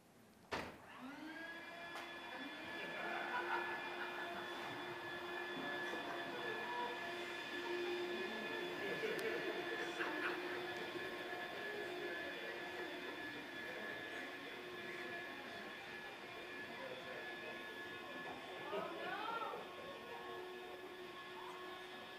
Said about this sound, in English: Who would have thought two people would walk through the room with vacuum cleaners blowing on you? You didn't know that. I did, and a few other people did. There was supposed to be leaf blowers, but it didn't work out.